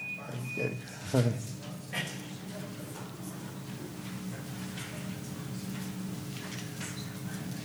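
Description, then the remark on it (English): A single electronic buzzer tone sounds steadily for about a second at the start, then stops, leaving low background noise and faint, indistinct voices. “The buzzer goes off.”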